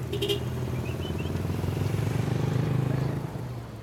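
A quick, short honk goodbye at the start, then a truck full of kids, driven by a former priest, rumbles steadily and loudly as it drives off, fading slightly at the end.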